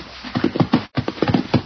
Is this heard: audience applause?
no